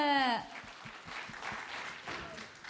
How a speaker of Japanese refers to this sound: So we have the last group up on stage now. And the last group is, of course, Group L. グループ L のみんな。 拍手をお送りください。 大きな拍手。